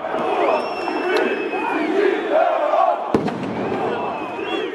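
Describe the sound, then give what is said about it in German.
Thousands of protesters shout and chant continuously in pouring rain on a Monday evening outside the Council of Ministers building in Tirana, Albania, answering opposition Democratic Party leader Lulzim Basha's call. It is a dense roar of many voices with rising and falling yells, broken by one sharp bang a little past three seconds. “Erneut sind Tausende von Demonstranten bei strömendem Regen dem Aufruf von Luzim Bascha gefolgt, dem Chef der oppositionellen Demokratischen Partei.”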